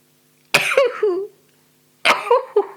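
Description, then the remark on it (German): Two loud sneezes about a second and a half apart, each a sharp, explosive burst trailing off into a brief voiced tail, with quiet between them. “Ich bin dankbar dafür, dass ich niesen kann.”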